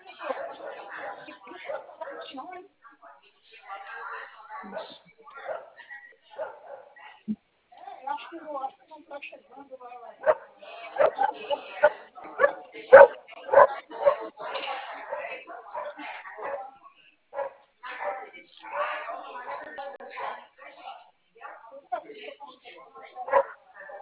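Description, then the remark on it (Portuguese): A dog barks repeatedly in rapid, uneven bursts, heard through a thin, telephone-like sound. The barking grows louder and more frantic midway, then continues in scattered yaps. “Ah, o cachorro chato, Jesus.”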